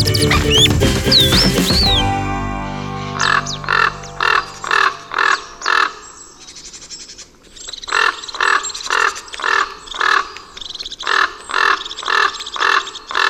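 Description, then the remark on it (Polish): A common raven gives harsh, rasping croaks in two rhythmic runs of about a dozen calls, loud, after a brief burst of a different sound at the start. “Razem z krukiem to trzeba by też wysunąć krzyżodzioby, które dosyć wcześnie się rozmnażają, bo one mogą jeszcze wcześniej niż kruki.”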